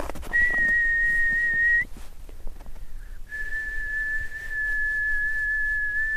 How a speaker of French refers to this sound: Quand j'étais enfant, je croyais qu'en sifflant et en frottant les mains l'une contre l'autre, c'était censé faire danser les aurores.